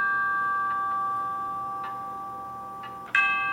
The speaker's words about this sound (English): Et voilà! A real clock would sound more, well, realistic, I grant you, but this isn't bad for a little app.